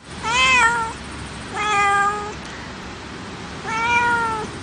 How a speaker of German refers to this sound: Heute mal Begrüßung in Katzensprache und da müssten Sie uns eigentlich jetzt noch lieber zuhören als sonst.